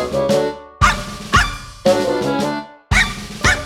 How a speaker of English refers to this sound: His bark will make you cower, his breath can wilt the flower, 'cause he's Toby, the worst dog in the whole wide world.